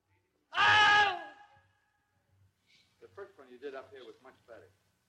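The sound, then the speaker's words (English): A man lets out one loud, strained scream imitating a man being bitten by an alligator, lasting under a second and trailing off, followed after a pause by several seconds of talking. “A man getting bit by an alligator and he screams.”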